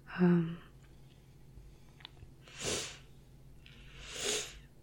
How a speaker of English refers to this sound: Sorry, excuse the sniffles.